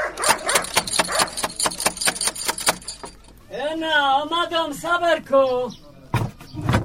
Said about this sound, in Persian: اوهو، این چی سگ خطرناک داره که نخوریم ما. الا دروازه را بسته کن که سگ نخوریم ما.